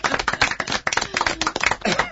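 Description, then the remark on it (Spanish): A small audience claps steadily, a dense patter of hands at moderate loudness lasting throughout, with a few voices murmuring beneath the applause. “Volvemos a aplaudir como la semana pasada.”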